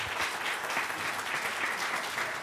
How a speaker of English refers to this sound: Could I get a round of applause for absolutely everyone who made today possible?